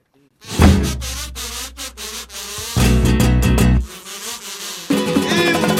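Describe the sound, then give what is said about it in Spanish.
A loud buzzing like a large blowfly, droning steadily for several seconds with wavering pitch and surging intensity, and no voices. “Uy, perdón, es que te confundí con un moscón.”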